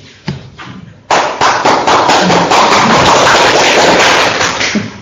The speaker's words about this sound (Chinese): 你为啥鼓掌啊？